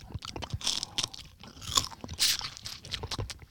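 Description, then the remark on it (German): Crunching of a dried salty fish snack, with repeated bursts of crisp crackling bites and chewing over a few seconds, no talking. “Wenn du es knusperst und runterschluckst, geht es, aber dann stellt sich halt die Frage des Sinns.”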